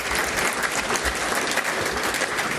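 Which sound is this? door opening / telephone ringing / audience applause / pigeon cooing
audience applause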